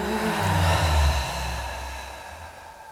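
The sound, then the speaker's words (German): A deep breath pushed out through the mouth, a breathy whoosh that swells for about a second and then slowly trails off, with a low steady drone underneath. “Atmet aus durch den Mund.”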